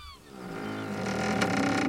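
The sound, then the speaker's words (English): Wooden timbers of the sailing ship Jolly Jack creak in a long, drawn-out groan, steady, swelling slightly louder toward the end with no voices present; the ship is in the middle of the ocean. “and the creaking of a ship.”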